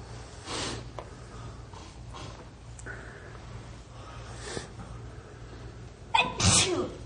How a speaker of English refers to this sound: Sneeze now. Just twice.